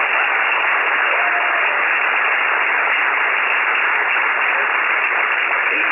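Loud, sustained audience applause, a dense steady wash of many hands clapping at once, continuing without pause for several seconds with no voices standing out.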